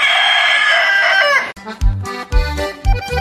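A loud, close rooster crows once in a long, strained call that falls away at the end, then rhythmic music with heavy bass thumps cuts in right after.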